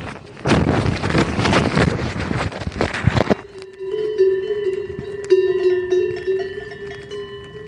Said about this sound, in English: Armin crashes in or near a meadow filled with cows. Their bells create a sort of ambient music.